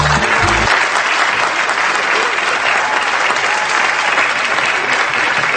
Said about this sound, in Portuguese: um abraço pra todos os caminhoneiros do Brasil e uma salva de palmas, eu vou mandar uma salva de palmas pra eles, assim, ó.